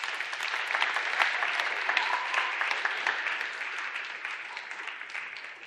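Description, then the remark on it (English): An audience at a church morning service gives steady applause, a dense wash of many hands clapping that holds at an even, fairly loud level for several seconds without pausing. “Do give them a round of applause.”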